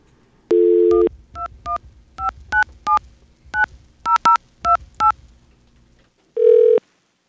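A steady dial tone, then a quick run of about a dozen touch-tone beeps as a Philadelphia phone number is dialed, each tone short and two-pitched, followed by a brief ringback tone.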